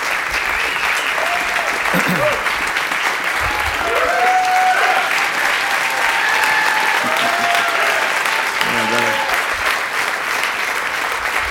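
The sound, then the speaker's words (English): Sustained applause from an audience at Gateway church welcoming a pastor, a dense, steady roar of many hands clapping at a loud, even level throughout, with a few voices calling out and cheering within it. “You can clap for him.”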